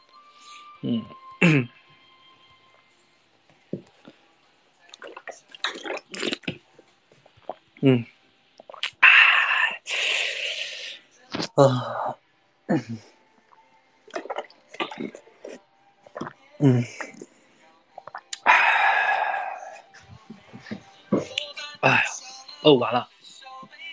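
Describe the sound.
A few rough, raspy throat-clearing bursts stand out among short voiced sounds and murmurs, with harsher noisy sections near the middle and toward the end.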